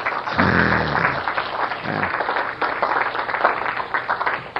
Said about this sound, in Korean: 맞아요, 박수.